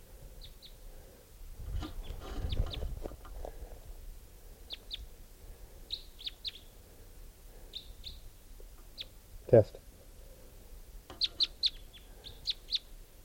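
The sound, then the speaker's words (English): Short, high-pitched bird chirps repeat in irregular bursts from a bird caught in a net, over low rustling and handling noise as its mate is collected, with one sharp knock midway and a single brief spoken word near the start. “Just collected that bird, and it'll be bird 636. And the mate who's in the net right now will be 635.”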